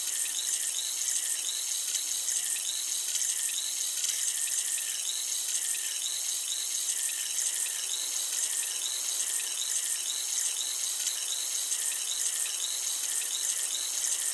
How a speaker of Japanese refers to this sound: 炭酸を用いた耳洗浄をしております。この耳で弾けるシュワシュワとした音と感覚が心地いいですよね。